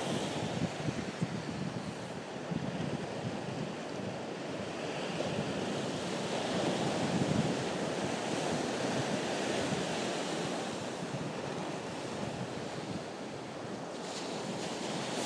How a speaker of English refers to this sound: So it's Friday early evening. Well, I say early, it's about 7:15 probably. I'm sat down by the beach, just listening to the waves.